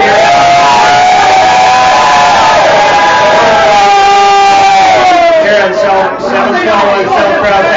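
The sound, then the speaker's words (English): A huge crowd of fans at a Syracuse football game day roars and cheers continuously as Leonard Fournette appears on the screen, a loud sustained wall of many voices with rising and falling shouts and whoops, swelling throughout the whole stretch. “And if everybody's wondering what that giant cheer was, every time Leonard Fournette shows up on the screen, the fans treat it like it's the game going on right now.”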